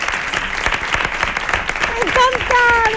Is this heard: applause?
yes